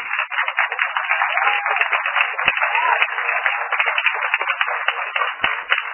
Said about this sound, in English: Here is a big applause for you.